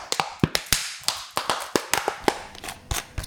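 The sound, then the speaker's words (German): Plastic drink containers such as milk or water bottles tossed into a yellow recycling bin in Queensland, Australia: a rapid, irregular series of sharp hollow clacks and rattles over about three seconds, with no voices. “Bis zum 1. November hörte sich das Recyceln von Plastikgetränkebehältern wie Milch- oder Wasserflaschen noch so an.”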